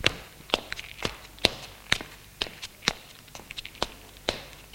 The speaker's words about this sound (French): Bon, je t'attends en bas. Elle longe le couloir.